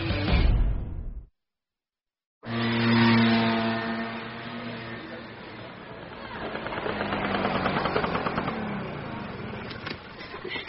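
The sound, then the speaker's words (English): A small scooter engine carrying two riders buzzes along steadily with a droning, slightly revving hum, fairly loud, briefly cutting out near the start before resuming, riding up on the sidewalk. “Even I have to admit, they sure look cute on that scooter.”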